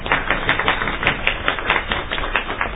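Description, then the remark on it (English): An audience applauds, a dense, steady wash of many hands clapping at once that holds an even loudness throughout, with no voices heard. “So I think we should give ourselves a round of applause”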